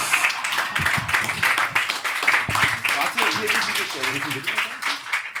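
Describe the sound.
An audience applauds, a dense, steady wash of many hands clapping for about five seconds, with some voices mixed in beneath the clapping.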